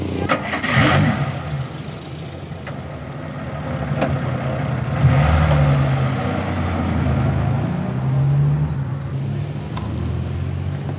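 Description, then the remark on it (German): A car engine turns over and catches, then rumbles steadily and revs up and down as the vehicle pulls off, staying loud for the whole stretch with no voices. “Der Wagen interessiert dich wohl mächtig”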